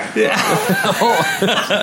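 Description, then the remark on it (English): A loud, throaty vocal exertion grunt of disgust with a cough-like edge, broken into several choppy voiced bursts over about two seconds. “it sounds like disgust and like a turn your head and cough or something.”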